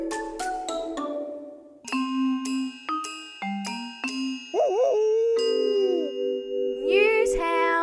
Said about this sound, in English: Get out of his shell, get it? Yeah, all right, there goes the dad joke alarm.